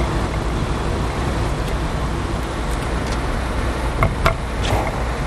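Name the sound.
car interior noise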